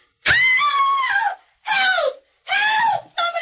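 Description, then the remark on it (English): A woman screams in four loud, high-pitched bursts, the first long and wavering, the rest shorter with brief gaps between them. “What was she screaming about, mister?”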